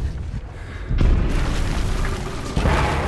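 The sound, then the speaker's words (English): A bomb blast in the opening scene of the film The Hurt Locker, set off by a cell phone, erupts suddenly with a heavy, deep boom, then rolls on as a loud, sustained rumbling roar that surges again briefly before fading slightly. No voices are heard. “The cell phone sets off the bomb, killing the soldier trying to destroy it.”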